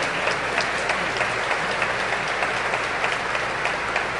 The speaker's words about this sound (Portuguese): tomará forma o primeiro submarino de fabricação nacional, o Riachuelo S-40, que está devendo muito aos trabalhadores que nele trabalharam, a quem eu peço um aplauso de todos os que estão aqui.